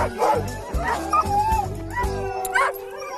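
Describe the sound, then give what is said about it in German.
A pack of harnessed sled dogs in Inzell, Bavaria, barks and yips excitedly in the cold, eager to run, with rising whines and howl-like cries layered over a busy, continuous chorus. “Was heulen die denn so? Haben die keine Lust? Doch, die heulen, weil sie so viel Lust haben.”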